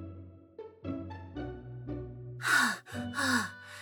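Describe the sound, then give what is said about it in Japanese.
A voice lets out a few short, strained vocal sounds, then two or three loud, heavy breaths close to the mic, like breathless panting after exertion. “肺なんてないのになんで息切れしてるんだろう。”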